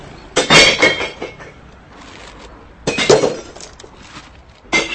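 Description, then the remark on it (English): Glass bottles smash and shatter into a recycling bin at a drop-off point in three separate loud crashes, each followed by a brief tinkling rattle of shards settling, with quiet pauses in between. “Drop-off points are easily accessible, and it's not uncommon on any given day at almost any hour to hear smashing glass being thrown into bins or to hear the crunching of plastic bottles.”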